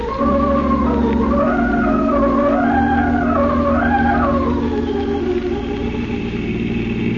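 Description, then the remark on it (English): A car engine runs hard at speed with the accelerator pressed to the floor, a loud, steady droning roar whose tone swells and dips in pitch, with no voices over it. “But can't you go any faster, Tyler? My foot's on the floor now.”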